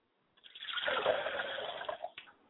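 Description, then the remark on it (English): Water pours steadily from a glass as a libation for about a second and a half, a continuous splashing stream that tapers off into a few last drips. “I pour a glass of water to my father's spirit, and I say, Father, I quench your thirst with this drink.”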